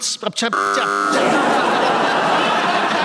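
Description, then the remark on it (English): After a brief voice, a quiz show buzzer, pressed by a panelist to challenge a hesitation, blares a loud, steady, harmonic buzz for about half a second, then gives way to a noisy burst of laughter and commotion. “Who buzzed then?”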